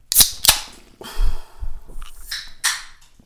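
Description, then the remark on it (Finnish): Two sharp, bright gunshot sound-effect cracks in quick succession, followed by a lingering echo added as an after-effect and a few softer bursts and thumps trailing off over a couple of seconds. “Ahaha, kaiku tuli oikein mukaan sieltä. Jälkiefektinä.”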